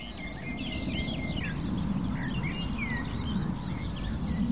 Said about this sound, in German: Wir hören das helle Mönchgrasmückenlied, das da. Wir hören die Feldlerchen über uns und die Nachtigall mit ihrem Schlagen und ihren hohen Pfeiftönen.